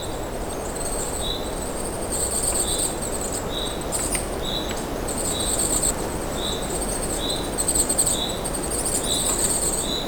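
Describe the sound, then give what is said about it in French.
A dense forest ambience at minus 6 to minus 7 degrees hums with layered insect calls, high steady buzzing bands and repeated short chirps over a soft, continuous low rustle, with no talking. “Alors oui, écoutez-la, cette forêt qui vibre.”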